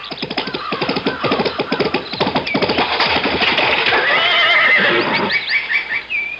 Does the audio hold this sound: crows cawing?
no